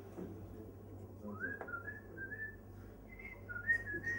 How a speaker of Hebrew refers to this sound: שורק, נכון?